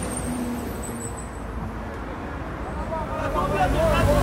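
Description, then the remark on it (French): A garbage truck's heavy engine rumbles, its low drone steady then growing louder toward the end as it pulls in bringing waste, with murmuring voices in the background. “Il y a un monsieur qui apporte, dans un camion poubelle, qui apporte des déchets.”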